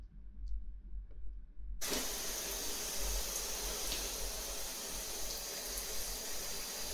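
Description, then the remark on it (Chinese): A low hum, then water suddenly gushes on from a shower, set to 40 degrees, at about two seconds and keeps running as a steady, full, hissing spray through to the end. No one speaks. “来，我帮先生开水了，现在的温度是40度，刚好合适。”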